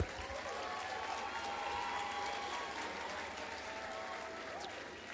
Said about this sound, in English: Let's clap for your media people. They are fantastic.